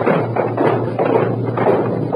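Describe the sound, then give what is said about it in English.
A series of heavy studio doors swinging shut as the studios close for the weekend, several dull thuds and knocks landing in quick, uneven succession against a rumbling, reverberant background, fairly loud, with no talking. “Just time for our closing door ceremony, a regular Friday feature here at CBS.”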